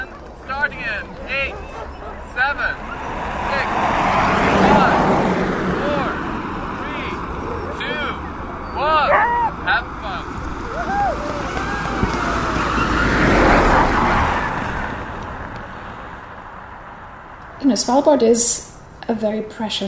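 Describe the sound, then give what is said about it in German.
Rented snowmobiles driven by their renters race eastward through the wide Adventdalen valley on Svalbard, with high, howling engines, two passes each swelling to a loud whine and then fading away, followed by a few brief sharp sounds near the end. “Geschäftstüchtige Unternehmer vermieten Schneemobile an Selbstfahrer, die mit jaulenden Motoren durch das weite Adventtal in Richtung Osten rasen, in der Hoffnung, dort einen der 5000 Eisbären vor die Kamera zu bekommen.”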